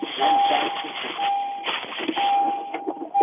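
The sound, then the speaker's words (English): A door chime alert sounds as a steady mid-pitched electronic tone, repeating in several long beeps with gaps, beneath continuous muffled talking. “Sounds like you got your door going off or something going off in your car.”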